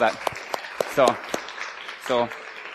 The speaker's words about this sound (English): In the Army or any armed forces, so in the military. So go ahead and stand up real quick. I know some of you guys have, so. But if you could give a round of applause for these guys, so.